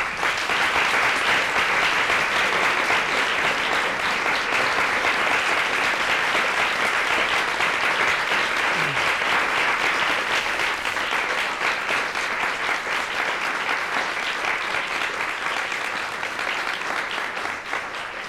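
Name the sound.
audience applause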